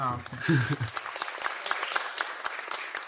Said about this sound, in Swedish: Det är jävligt torra applåder de får här.